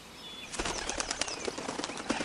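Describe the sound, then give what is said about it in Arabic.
A dove's wings flap in a rapid flurry of soft, fluttering beats, starting abruptly after a short quiet moment and continuing until the end. “من؟ حمامة؟”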